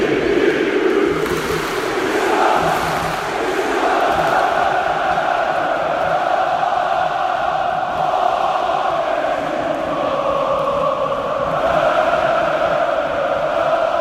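A packed football stadium crowd at Vodafone Park, measured at 141 decibels, roars continuously, thousands of voices blending into a dense, loud wall of crowd noise with rising and falling chant-like swells that never let up.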